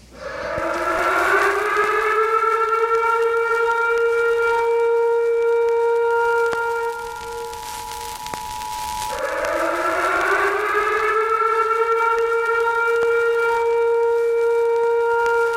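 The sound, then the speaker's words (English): A loud, steady emergency broadcast alert siren wails on its own, its tone rising and holding high, dipping briefly around the middle, then rising again and sustaining. No voices accompany it. “This is the emergency podcast system. This is not a test.”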